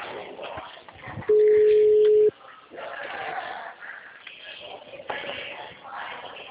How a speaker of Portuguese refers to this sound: Alô? Ah, eu tô falando até com o telefone tocando.